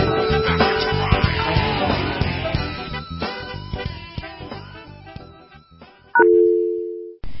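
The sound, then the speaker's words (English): A telephone number is dialed, with brief touch-tone beeps followed by a loud, steady phone tone near the end, after several seconds of dense, busy background sound. “The first number we're going to call here, actually all the numbers we're going to call here tonight, were found by a guy named Brisk Ativo”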